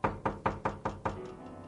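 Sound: knocking on a door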